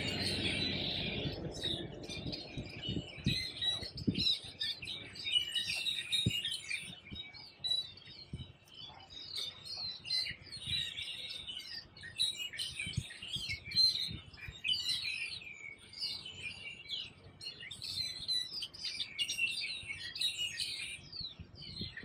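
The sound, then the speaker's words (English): A lively chorus of many small birds in a bush next to a smog shop chirps and trills nonstop, overlapping calls filling the whole stretch, with a few soft low thumps and rustles underneath and no one speaking. “So you got these bees buzzing around, you got these birds singing like crazy, full of life around this living thing, the plant.”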